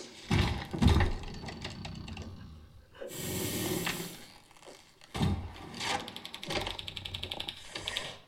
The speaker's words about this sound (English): So our egg timer is going. And we're about to hear the egg timer from the creature's point of view.